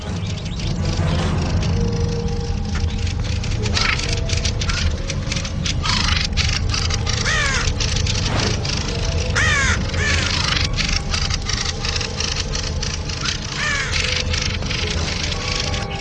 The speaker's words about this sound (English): The group takes their stations and the defense force comes together. One of the birds squawks angrily and threatens the intruder. The threat is then translated into action. They attack the intruder en masse.